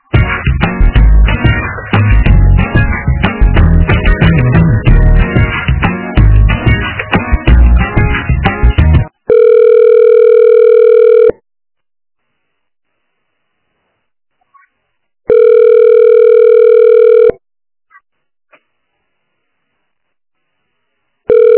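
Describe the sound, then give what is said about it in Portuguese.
A telephone ringback tone as a call is transferred upstairs to another department: two long, steady, buzzy rings about two seconds each with a silent gap between, following several seconds of loud, dense, jumbled sound. “Eu vou te transferir lá pra cima, aí lá tu pede pra passarem pro EJA.”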